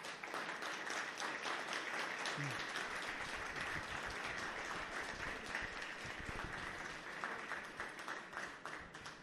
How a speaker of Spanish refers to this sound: les quiero pedir un fuerte aplauso para todos ellos.